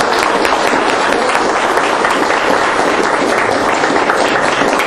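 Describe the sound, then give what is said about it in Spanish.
Sustained audience applause for a special guest, a dense, steady wash of many hands clapping at an even loudness for the full length, with no voices rising above it. “Pero ahorita es el momento donde les pedimos que le demos un fuerte aplauso a nuestro invitado especial”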